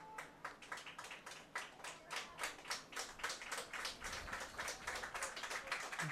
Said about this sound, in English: Much to the applause of the great fans that Loras brought with them today. And they do have great fans. They travel in numbers.